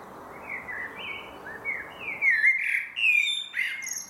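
Outdoor ambience with a low, steady background hum and several small birds chirping and twittering, their calls growing busier and brighter toward the end. Recorded at 10:22 a.m. on Monday, May 24, 2021, at the Dalbusch Miners Settlement, former Dalbusch Colliery, Gelsenkirchen, with an unpaved road, a high-voltage pylon and old miners' houses.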